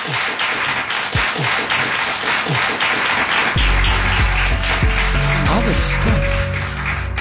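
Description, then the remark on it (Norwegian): An audience bursts into sustained applause, a dense, steady wash of many hands clapping, with low tonal music swelling in underneath partway through while the clapping continues. The applause follows an answer to a question on the show Abelstorm. “Ok, da tar vi en applaus for den.”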